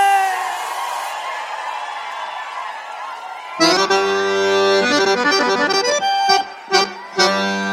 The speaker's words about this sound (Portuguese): Quero ver o grito da gauchada que tá presente aí!